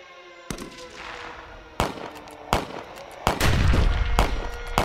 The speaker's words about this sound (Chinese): 啊，演习？不是啊，演习怎么会有枪炮声啊？ 我想这一次是故意让国人有多点警戒心，才放这样子的音效出来。